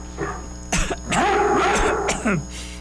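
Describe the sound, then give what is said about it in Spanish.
A few small coughs in quick succession, a recurring cough returning after chikungunya, with a raspy, throaty voiced stretch between the bursts, heard on their own with no talking. “Pero con las defensas bajas a causa de Chic, pues la tosecita volvió.”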